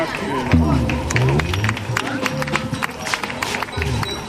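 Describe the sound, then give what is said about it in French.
An audience at an international colloquium in Saint-Louis, Senegal, applauds with loud, dense, irregular clapping that carries steadily throughout, mixed with voices calling out and chattering over the claps. “Applaudissez.”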